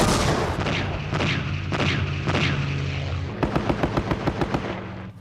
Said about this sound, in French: Un appareil de la Seconde Guerre mondiale file vers Lang Ve. Le pilote de l'avion d'assaut A-1 vole en rase-motte et à basse vitesse, ce qui lui permet de tirer avec précision sur l'ennemi. L'avion bombarde et mitraille le camp à 3 reprises.